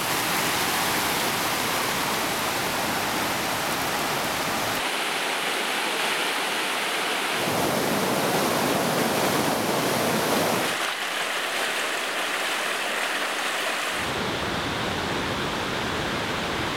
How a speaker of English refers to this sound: Look how much rain is coming down. So we've been driving for about 9 hours. We just popped around this corner. The road has literally turned into a river.